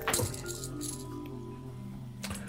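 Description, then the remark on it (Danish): Coins rattle and clink together as they are mixed, in two brief bursts, at the start and again near the end, with a faint metallic ring lingering in between. Fairly quiet, with no talking. “Jeg skal aldrig blande de her åndssvæde mønter rundt.”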